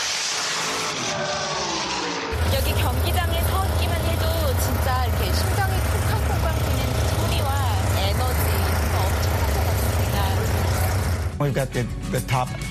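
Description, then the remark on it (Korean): A drag racing car engine on a quarter-mile drag strip in Baton Rouge bursts into a loud, deep, explosive roar heard up close after a couple of seconds and holds for about nine seconds before cutting off, with voices talking underneath. “공기를 가르는 폭발적이고 우렁찬 자동차 엔진 소리를 직접 가까이서 들으니 더 신기했습니다.”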